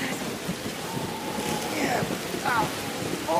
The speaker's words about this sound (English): At night, Michael cowers under palm fronds as a storm rages around him.